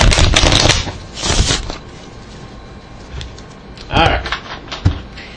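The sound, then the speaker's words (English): Playing cards being shuffled: a few quick papery riffles and clattering bursts separated by quieter pauses, with faint voices murmuring in the background. “You shuffle these, babe.”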